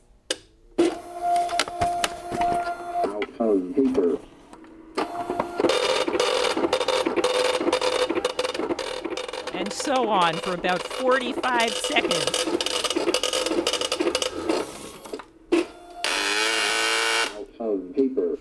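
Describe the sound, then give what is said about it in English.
An Everest Braille embosser being turned on whirs and hammers out rapid, loud bursts of embossing, stopping and restarting a few times, with a person speaking briefly over the machine. “So here's a demonstration of the Everest printer and me trying to get it started and getting a little frustrated.”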